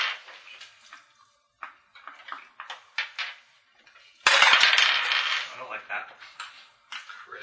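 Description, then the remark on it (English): Dice clatter and rattle across a table in a burst of sharp clicks, preceded by scattered light taps and rustles, fairly loud. “He's got this evil grin on his face and he's rolling more dice.”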